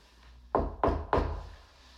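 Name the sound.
knocking on a door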